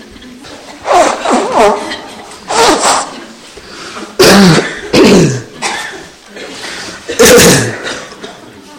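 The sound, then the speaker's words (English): A series of loud, breathy nose blows before a meditation session, about six or seven forceful bursts at irregular intervals, with short quiet gaps and no talking between them. “Blow your nose.”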